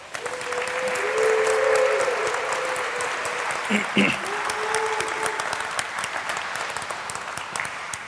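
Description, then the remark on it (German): Sustained audience applause welcoming Honkhase's talk on defensive instead of offensive security, using critical infrastructure (Kritis) as the example. A dense wash of many hands clapping at steady loudness for about eight seconds, with a few faint tonal hums and a brief knock partway through. “Einen großen Applaus!”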